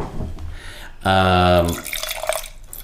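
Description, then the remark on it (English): Wine that looks like rosé pours and drips in a soft trickle onto a laptop, broken midway by a loud, steady buzzing tone lasting under a second before the splashy pouring resumes. “Just poured a little on my laptop there, but that's fine.”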